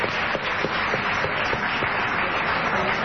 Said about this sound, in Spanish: Un aplauso para Julia Mengolini, caramba.